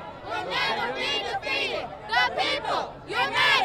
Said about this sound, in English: Picture perfect, save for the hundreds of protesters lining the roadway, booing Rauner as he rode on by.